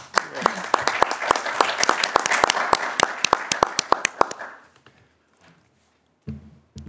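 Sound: group clapping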